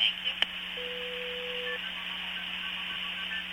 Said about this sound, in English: Now, you hear that? Yeah, those are MF tones, and... That was the old AT&T system.